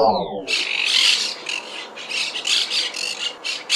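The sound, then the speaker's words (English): Monk parakeets nesting in the middle of Chicago squawk in a dense, harsh, raspy chorus of repeated calls, loud, pulsing in quick bursts with no pauses. A brief descending tone comes just before them. “You might expect to hear parrots like these in the wild of South America, but the birds are actually nesting in the middle of Chicago.”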